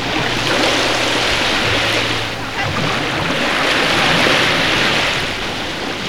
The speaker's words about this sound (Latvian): Laika apstākļi ieraksta dienā ir visai nemīlīgi, migla un pie jūras pūš pamatīgs vējš.